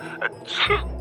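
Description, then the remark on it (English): A single sneeze: a brief intake, then a sharp, breathy burst, fairly loud, with no talking around it. It sounds like a person voicing the sneeze. “Oh, God, I'm going to sneeze.”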